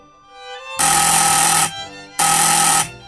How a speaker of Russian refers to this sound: В это время раздался дверной звонок, сопровождаемый громким стуком в дверь квартиры. Оба эти звука явно намекали на немедленное открытие входной двери.